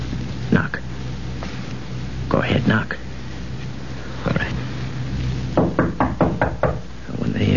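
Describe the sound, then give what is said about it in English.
Knocking on the door of a room: a few separate raps, then a quick run of about five firm knocks, fairly loud over a low background rumble. “Now you stop at the room, knock on the door, and say it's you.”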